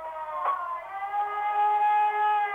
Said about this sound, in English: The whine of air raid sirens bled out over cities throughout Croatia, sending the civilian population scuttling to makeshift shelters and cellars.